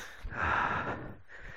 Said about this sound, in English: I'm still sniffing, and still I'm worried sniffing. That listeners, rather than hearing me tell my story, are hearing me going.